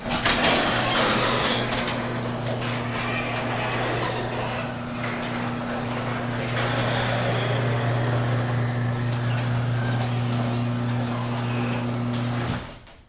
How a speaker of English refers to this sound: Well, I suppose while we're out here, we can record the garage door closing.